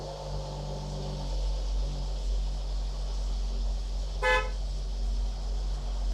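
A car's engine rumbles steadily and low, then a single short honk of the horn cuts in near the end before the idling continues.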